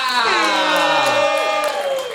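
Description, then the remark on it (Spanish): A crowd cheers and shouts loudly, many overlapping voices whooping together in a steady, sustained roar for about two seconds, with no single speaker standing out, applauding a person being introduced. “Fuerte aplauso para”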